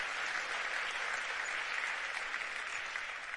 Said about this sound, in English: So let's just give them a little round of applause and to thank them tonight. Thank you. It's great. Thank you.